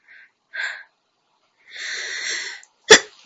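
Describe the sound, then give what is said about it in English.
A single sneeze from someone feeling ill: a few short, breathy catches and a drawn-out hissing inhale build up to one sharp, explosive burst near the end. No one speaks. “Been sneezing all day.”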